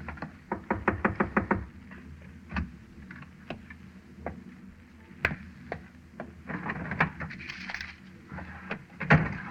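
A rapid series of firm knocks on the wooden door of Mao's cabin, about eight quick raps, followed by scattered single knocks and faint shuffling movement, with no voices.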